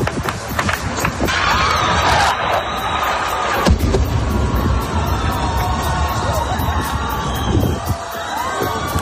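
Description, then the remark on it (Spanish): A large outdoor crowd on a square in Kyiv, Ukraine, shouts, whoops and claps continuously as a burning Russian drone, shot down by Ukrainians, crosses the blue sky and falls; the loud excited din is punctuated by one sharp bang partway through. “La gente grita y aplaude porque una bola de fuego, el dron en llamas, recorre el cielo azul de Kiev y de repente cae hacia el asfalto de la capital.”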